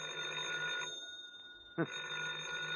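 A telephone rings in two sustained bursts separated by a brief pause, its bright trilling tone loud, with nothing else competing.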